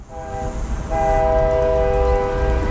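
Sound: train passing with horn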